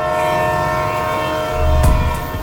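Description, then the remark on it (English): A train horn blares in a steady, sustained chord while a rumbling train passes steps from a home's back door, with a heavy low thump and rushing noise swelling near the end. “Do you know what I had literally footsteps from my back door? What? A train.”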